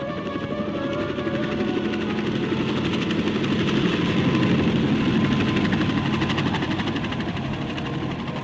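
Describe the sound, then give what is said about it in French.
Helicopters over Manhattan in the morning: a steady, loud drone with a rapid rotor chop, swelling slightly as it passes overhead midway and then easing off a little, with no voices. “Le lendemain matin, les hélicoptères piquent droit sur la congestion insulaire.”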